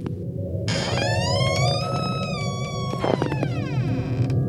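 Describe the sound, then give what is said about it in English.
A sound effect of an ancient door creaking open, taken from a film: a long, wavering groan that slowly drifts in pitch, then sinks into a lower, drawn-out whine, all over a steady low rumble. No one speaks. “And here's the sound effect, everybody, they use for this ancient door.”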